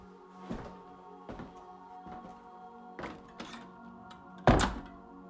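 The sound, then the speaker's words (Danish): A series of dull wooden thuds, a few knocks spaced irregularly, ending in one loud, heavy slam of a door shutting. No voices. “I vælger jeres ansigt, jeg vælger mit blik, siger mænden ved udgangen, før han smækkede døren i.”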